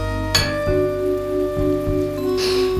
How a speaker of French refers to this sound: Tu vois, il y a toujours la pluie.